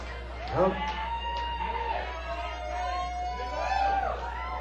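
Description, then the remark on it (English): A bird calls in a string of sweeping, slurred whistled notes, clear, over a steady low hum with a faint murmur of background noise. “Whiskey Free Back Dog Bird.”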